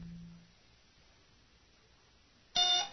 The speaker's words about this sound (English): The alarm buzzer squawked wildly in Tendra Rezant's ship, the gentleman caller.